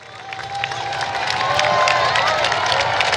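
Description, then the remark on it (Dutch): A dense crowd of roadside spectators by a windmill along the Amstel cheers and shouts steadily, with whistles and scattered claps rising over a continuous roar of many voices, loud and sustained throughout. “Veel publiek hier langs de kant.”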